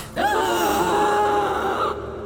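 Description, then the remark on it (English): A single loud, sustained vocal moan-roar lasting nearly two seconds: a human voice imitating the angry, yawn-like roar of an undead figure, with no other talk. “They made a loud sort of moaning roar. Like a yawn, but angrier, I would say.”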